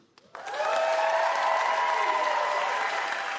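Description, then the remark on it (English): A room full of people bursts into loud, sustained applause after a brief quiet moment, with scattered cheers and whoops rising over the steady clapping, as the audience applauds to show they are Chicago Cubs fans. “Who, by applause, considers themselves a Cubs fan?”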